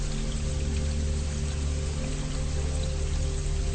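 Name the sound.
flowing stream water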